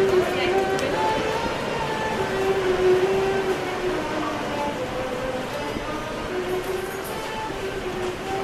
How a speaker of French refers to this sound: Métro d'Istanbul, la station de Taksim.